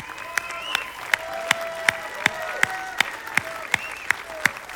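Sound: audience applauding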